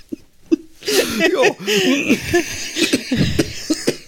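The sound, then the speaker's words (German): A prolonged fit of loud, harsh coughing, with rapid bursts running together and some laughter-like, voiced catches mixed in, after two short, sharp coughs at the start. “Also ich finde, du kannst wirklich erstklassig husten”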